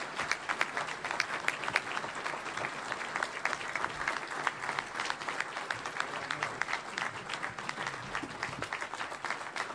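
An audience gives sustained applause to congratulate an award recipient, many hands clapping in a dense, steady wash of sharp claps that holds at an even, fairly loud level throughout without any speech.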